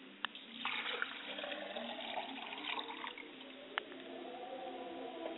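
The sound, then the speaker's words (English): Liquid pours in a steady, splashing stream for several seconds, moderately loud, with a few brief sharp ticks along the way, poured out as a libation to a mother's spirit. No voices. “I pour libation to my mother's spirit, and I say, drink well, mother, libation.”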